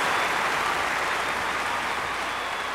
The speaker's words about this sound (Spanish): se oye un aplauso de aquí hasta Huetitán.